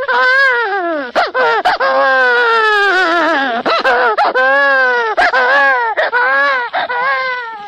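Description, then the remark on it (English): An adult voice imitates a crying baby, weeping into a microphone in a studio, producing continuous wailing, warbling sobs with rising and falling pitch, loud, broken by brief catches of breath. “Well, a baby cry is made by one of two ways. Either by having an expert crier weep into the mic and flood the studio with tears, like this.”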